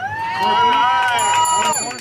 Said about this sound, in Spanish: Unidad Latina Musulmana se escucha antes de la aclamación de los comensales.